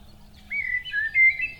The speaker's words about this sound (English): The country is simply full of birds, isn't it, Madison? Where else would you put them? All that endless chirping.